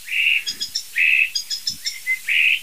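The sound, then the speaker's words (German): A single starling perched directly overhead mimics an electronic alarm system: a shrill, sustained whistle alternates with quick clusters of higher piping beeps, repeating in a steady cycle. The bird is loud and clear, with no talking. “Es sind nicht zwei, es ist einer, der sitzt genau über uns und macht gerade eine Alarmanlage.”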